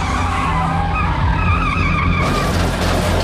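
A loud car skid with tires screeching steadily for about two seconds, then a harsh burst of crunching collision noise as a Cadillac crashes into the car in front of it at a junction near San Bernardino, with no voices.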